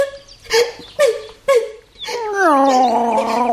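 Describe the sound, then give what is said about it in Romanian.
Three short, plaintive cat cries in quick succession, then one long drawn-out meow that wavers and slowly falls in pitch, fairly loud. “Mi se pare că aud un miaunat.”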